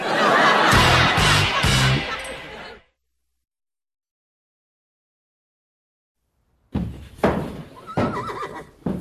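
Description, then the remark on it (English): A horse named Chestnut, kept in a bedroom, lets out a loud whinny for about two seconds, then silence, followed by another burst of neighing mixed with some background commotion. “Did you have to put him in my bedroom? It was the easiest room to horse-proof.”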